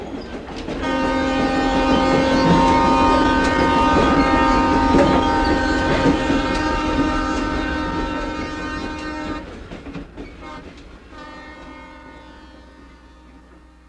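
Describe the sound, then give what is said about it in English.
A train rumbles past with its horn blaring a long, loud, sustained chord for several seconds, then the horn cuts off and the rolling clatter of the cars slowly fades. “The Alaska Railroad summer season runs through mid-August.”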